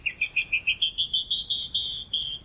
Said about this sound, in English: But many female birds do sing, even in colder climates, such as this canyon wren.